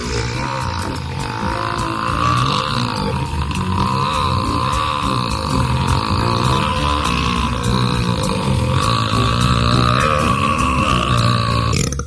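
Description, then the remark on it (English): A loud, drawn-out belch rumbles without a break for around twelve seconds, deep, with a growly, croaking texture and no talking over it. “3, 2, 1. Burp.”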